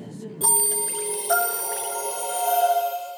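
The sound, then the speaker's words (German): A timer is set and goes off with two bright metallic rings about a second apart, each leaving a sustained, shimmering tone that hangs in the air. Fairly loud, with no talking. “Jetzt noch den Timer stellen, damit wir nicht noch diskutieren, wenn der Engel die siebte Posaune bläst.”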